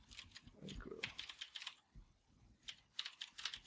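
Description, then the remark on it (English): Rapid clacking of keys on a computer keyboard, fairly loud, in irregular bursts with a brief pause midway, along with some low rustling. “All right, we can cut this out because I'm typing.”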